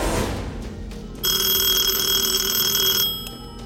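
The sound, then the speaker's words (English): A telephone bell rings once at 8:30 a.m., a call from an employee of Rouse Automotive, in a sustained, bright burst lasting about two seconds, fairly loud, with a low rumbling noise underneath before and after the ring. “8:30 a.m., the phone rings.”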